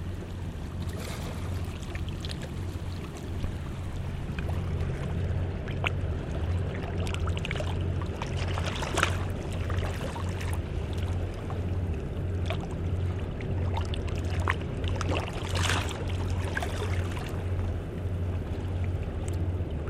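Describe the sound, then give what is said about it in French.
A speeding motorboat's engine drones low and steady throughout, making big waves, while water rushes and splashes against the hull in uneven, continuous bursts, with no voices. Smoke comes out behind the boat. “Et le bateau qui file fait de grosses vagues et l'on voit de la fumée qui sort derrière.”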